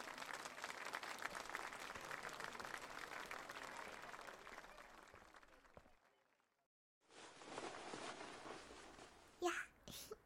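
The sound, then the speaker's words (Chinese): A large audience claps steadily and densely for several seconds to welcome the school baseball team's ace pitcher, who is giving a baseball club trial class. The clapping fades out into a brief silence before another burst of applause starts up, with a faint high cheer near the end. “大家掌声欢迎。”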